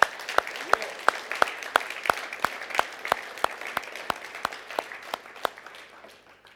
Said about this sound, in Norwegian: La oss gi en applaus for den fjerde mannen, folkens.